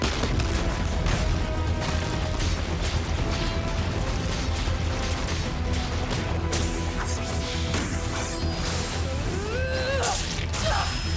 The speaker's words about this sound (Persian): نه ساعت بعد از دیدن تایتان‌ها، گروه دفاعی غربی. دست نگه دارید، یک تایتان! ایست، ایست! آماده ی حمله بشید! شلیک!